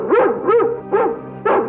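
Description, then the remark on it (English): A dog barks four times in a steady rhythm, each bark loud and sharply pitched, with short gaps between them and no voices. “Oh, stop your barking.”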